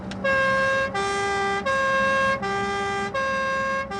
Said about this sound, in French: Mais la sirène, ça lui ferma sa gueule. Puis comme ça, on s'emmerdera pas au feu rouge.